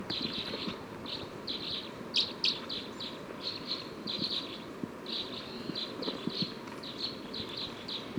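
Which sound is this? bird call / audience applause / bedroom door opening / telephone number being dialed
bird call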